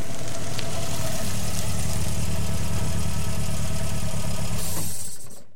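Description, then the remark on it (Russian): A car engine idles steadily with a low, throbbing rumble on a dark country dirt road at night, then is switched off near the end, the sound cutting out and fading into quiet. “Тома свернула на проселочную дорогу и заглушила мотор.”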